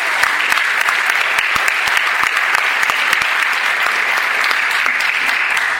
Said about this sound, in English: When you see folks out there wearing their Comic-Con shirts, wearing their volunteer badges, they're working really hard, so we want to give them a round of applause for making Comic-Con happen.